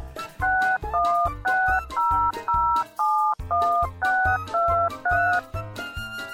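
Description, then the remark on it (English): A quick, steady sequence of about a dozen telephone keypad tones dialing a number, each dual-pitched beep short and clear, with low thumping underneath. “I'll just beep this in the phone.”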